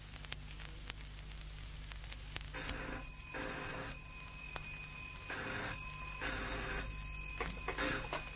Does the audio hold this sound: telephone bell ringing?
yes